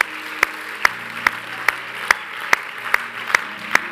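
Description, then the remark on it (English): An audience applauds, with a steady wash of many hands clapping and sharp, evenly spaced claps ringing out about twice a second over the top. No one speaks. “Can we give him a hand clap tonight, God?”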